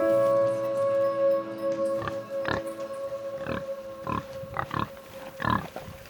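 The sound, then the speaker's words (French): Pigs grunt on a small organic pig and cattle farm in a series of short, throaty bursts, about six of them, coming closer together toward the end, over a steady humming drone in the background. “J'ai tenu à rencontrer une éleveuse de cochons et de bovins.”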